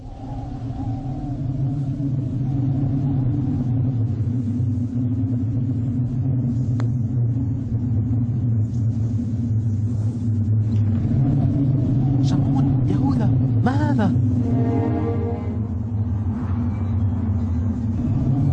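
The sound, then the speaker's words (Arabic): A deep, continuous rumble of an approaching storm rolls on loud and steady for the whole stretch, with a few brief warbling, whistling tones rising over it near the end. “إنها عاصفة، علينا أن نختبئ في مكان ما.”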